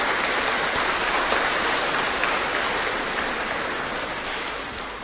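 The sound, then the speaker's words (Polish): A crowd applauds in a steady, dense wash of clapping that holds strong for about five seconds before easing off slightly at the end, with no voices over it. The applause welcomes a visiting priest and a man who came with him from Toruń. “Brawa dla ojca, dla pana też.”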